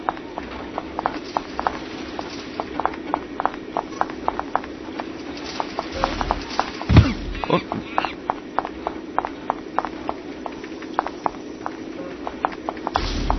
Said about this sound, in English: So now we're following the professor to the monkey cages, and you'll notice that he's not whistling this time. So you really have to concentrate on his footsteps.